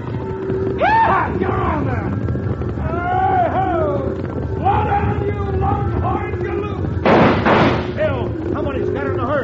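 impact, volley of gunshots

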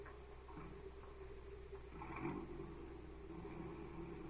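vehicle, car driving away

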